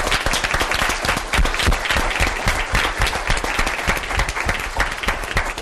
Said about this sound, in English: So please, beforehand, let's give a sharp applause.